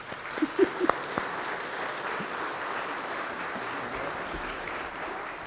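A crowd applauds steadily, a dense wash of many hands clapping at an even level throughout, with a few sharper individual claps standing out near the start.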